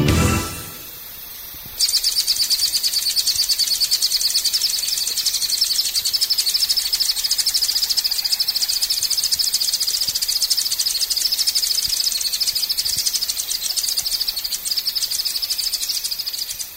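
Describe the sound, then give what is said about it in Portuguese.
An acrobata (Acrobatornis fonsecai), a small grey bird found only in southern Bahia between the Jequitinhonha and Contas rivers, sings a long, rapid, high-pitched trill of fast repeated notes, steady and fairly loud for about fifteen seconds after a brief quiet opening, with no talking. “O canto que a gente acaba de ouvir é do acrobata, um passarinho cinza só encontrado no sul da Bahia, entre os rios Jequitinhonha e das Contas.”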